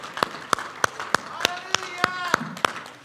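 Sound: audience clapping hands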